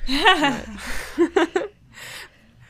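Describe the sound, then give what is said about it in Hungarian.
A fairly loud sneeze: a rising voiced intake breaks into a hissy burst, followed by a few short breathy vocal sounds and a soft exhale. “Bocsánat. Egészségedre.”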